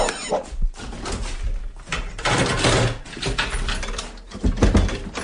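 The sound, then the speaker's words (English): A rapid series of metallic clicks, clacks and rattles as several door locks and bolts are drawn back one after another, with a faint creak of the door. “Blimey! It's like that Fort Knox place down America.”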